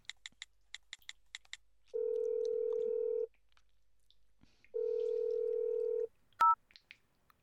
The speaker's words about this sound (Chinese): 我要打电话给你爸爸了。